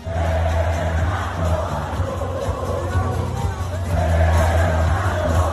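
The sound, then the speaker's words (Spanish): A large crowd at the Mexican Grand Prix racetrack roars and cheers for Fernando Alonso continuously, a dense wall of shouting voices that swells louder toward the end, with a low engine-like rumble underneath. “Te pongo para que veas cómo gritan a Fernando Alonso, y esto no es ni Madrid, ni Barcelona, ni Oviedo.”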